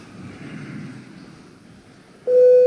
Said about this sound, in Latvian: Lūdzu, zvanu. Balsosim par likumprojekta grozījums Ukraiņas civilizēto atbalstu likumā atbalstīšanu pirmajā lasījumā.